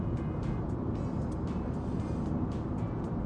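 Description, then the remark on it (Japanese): Steady, dense road rumble fills the cabin of a moving car driving diagonally across Hokkaido toward Asahikawa, a continuous low roar of tires and engine with faint intermittent hissy ticks on top, and no voices. “でもこれ軽自動車で走るよりは全然やっぱりスピード感もね違うと思うんだけど”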